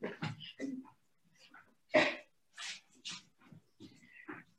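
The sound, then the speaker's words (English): A small dog named Angel, a former puppy mill dog, makes a series of short whines, snuffles and yelps in an office, irregular bursts with brief pauses between them, heard alone without talking. “It's my little dog Angel.”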